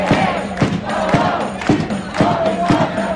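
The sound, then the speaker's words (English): A large crowd of about 150 to 200 protesters chants in unison outside the federal detention center at 7th and Arch Streets in Center City, Philadelphia, protesting ICE around 6 p.m. Their voices rise and fall in a steady rhythmic cadence with regular emphatic beats, loud. “Back in Philly, a group of protesters marched on the federal detention center in Center City last night to protest ICE.”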